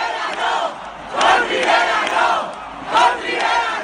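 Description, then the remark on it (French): A large crowd of Spanish Socialist (PSOE) activists at the PSOE headquarters, celebrating an election victory, chants the slogan "Con Rivera, no" in unison, voices swelling in rhythmic waves that peak roughly every second and a half, loud and dense, with no single speaker standing out. “Et oui, d'abord côté socialiste, il y a ce message très clair, scandé par la foule des militants venus fêter la victoire hier soir au QG du PSOE.”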